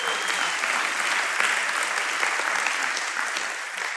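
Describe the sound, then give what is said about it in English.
Steady audience applause, many hands clapping at once in a dense, sustained wash of sound that holds at an even loudness throughout, with no one speaking over it. “I will tell Allison that you applauded her endurance.”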